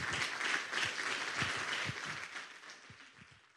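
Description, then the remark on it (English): An audience applauds in a dense, steady wash of overlapping claps that stays fairly loud, then gradually thins and fades toward the end. No one speaks over it. The applause follows a Creighton University Noon Forum lecture by Wei-San Dunn, FBI Special Agent in Charge of the Omaha Division. “Let's give another round of applause to Mr. Dunn.”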